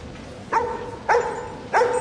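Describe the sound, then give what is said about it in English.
A tramp's dog barks three times in a steady rhythm, each bark short and sharp with a slight whining tone, heard clearly at moderate volume with no one talking. “The security man looks at the tramp's dog.”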